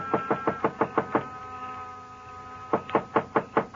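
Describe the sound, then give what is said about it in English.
Two bursts of sharp, rhythmic knocks on a wooden door of a small, dark frame building on a side street near a park, serving as Joe Picatello's office and living quarters, six raps each, separated by a brief pause. The knocking is clear, with no voices. “But in the hope he might be asleep in his little apartment up above, I knocked.”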